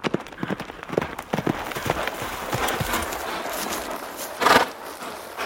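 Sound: horse galloping through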